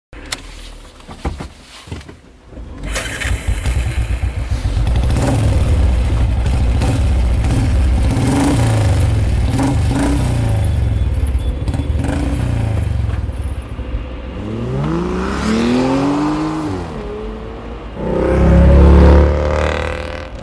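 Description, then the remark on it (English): A car engine cranks and catches, then settles into a steady, loud rumble before revving up in rising sweeps as it accelerates. No one speaks. “Come on, get in the car. Do you want to drive, or would you prefer me to drive?”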